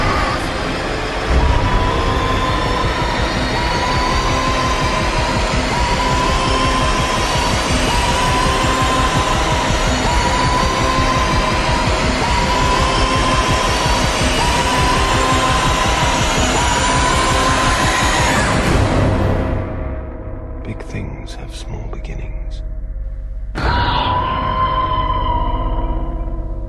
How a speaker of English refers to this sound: Hear that signature siren sound from the original Alien trailer.